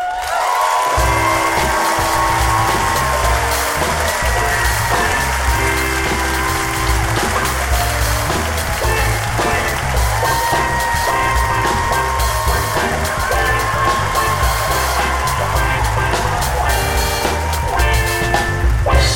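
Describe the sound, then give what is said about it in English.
Loud, sustained applause from a crowd with scattered cheers as Oakland storyteller Don Reed is introduced, running steadily for about twenty seconds over a pulsing, bass-heavy music track. “Everyone, clap for you.”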